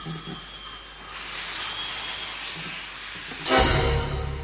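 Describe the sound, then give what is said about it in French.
A bright, high-pitched electric ring sounds in two bursts with a short gap, like an old telephone bell, from a telephone in a station master's office at a railway station, followed by a louder low rumble near the end. “Au même moment, dans le bureau du chef de gare, le téléphone se met à sonner.”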